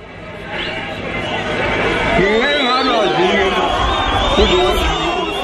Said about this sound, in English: His audience is mostly Zulu men who live in hostels in and around the city. The police say some of them have led in the xenophobic violence. Buthelezi appeals to them to stop attacking foreigners, but the men jeer him.